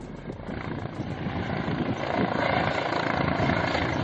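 A helicopter of a Guardia Civil search operation for a fugitive drones overhead with a steady, rapid rotor chop, growing slightly louder as it passes, with no voices present.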